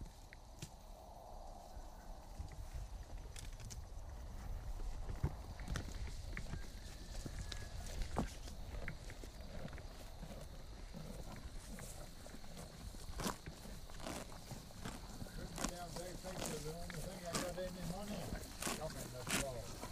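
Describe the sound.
One of several horses grazes and shifts about, its hooves thudding in slow, irregular steps, with muffled voices murmuring faintly.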